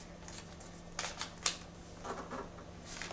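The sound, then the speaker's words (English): A piece of paper is flipped over and an edge folded in to form a corner-to-corner crease while making an origami elephant, with a few sharp crackling rustles around the middle, then softer, scattered crinkling. A low steady hum sits underneath and no one speaks. “Now flip your piece of paper over and fold this edge in to form a crease from that corner to that corner, but making sure that this flap comes out.”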